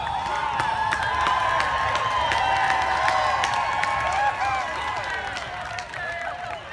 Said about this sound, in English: Eventually, the police are called to disperse the students. In response, the crowd, almost all white, cheers.